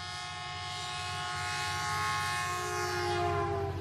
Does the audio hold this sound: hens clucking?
no